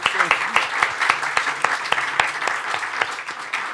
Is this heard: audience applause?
yes